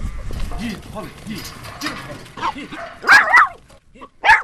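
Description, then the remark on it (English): A working dog that yards and works sheep barks: a quick cluster of loud, sharp barks, then one more after a short pause, following a stretch of low voices in the background. “They could see immediately that she was more than just a house dog, and she would sit and speak up and work the sheep.”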